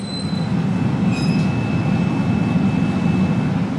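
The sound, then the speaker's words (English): A 2,300-degree glassblowing furnace at Zero Gravity Creations, a garage-turned-hot glass shop in southeast Baltimore, roars steadily, a loud, unbroken rumble heavy in the low end with a rushing hiss above and a faint thin whine running through it. No one speaks. “So this is what 2,300 degrees sounds like.”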